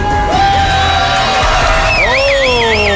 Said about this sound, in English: My, what a raucous crowd tonight here at Seven Tap Tavern at the Ramblewood Country Club. Oh, and why not? What a group we have here tonight.